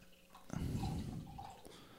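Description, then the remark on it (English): Beer pours into a red glass in one steady, gurgling stream that begins abruptly and tapers off after about a second, fairly loud, with no voices. “This is the control, so this would be your red glass. Yeah, I can pour here.”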